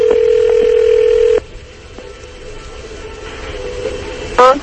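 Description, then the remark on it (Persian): A steady telephone ringing tone sounds for over a second, then the line drops quiet with faint clicks before a short burst at the end as the call connects; a phone call being placed live on air from a radio show to a colleague. “بذارید من یه زنگی حالا بهش بزنم و بذار من ببینم همین الان شمارهشو بگیرم، بذار شمارهشم رو ار نمیشه، بذار ببینم گوشیو برمی‌داره یا نه”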